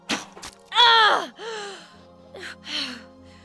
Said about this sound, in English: The Amazon sank to her knees, gasping in disbelief.